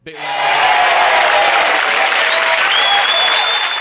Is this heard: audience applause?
yes